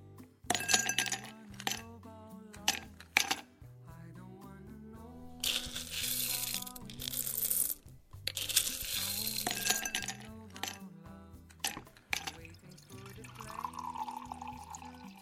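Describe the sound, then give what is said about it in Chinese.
Ice cubes clink and rattle in a glass at a café-bar while a drink is prepared, with two longer bursts of crunching, shaking ice in the middle, all over soft background music and no talking. “您看一下，您是要喝咖啡还是要来一杯美酒呢？不过店里的冰块不多了，将就一下。”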